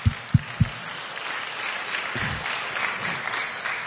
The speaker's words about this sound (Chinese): 哎，你们有没有跟神鼓掌啊？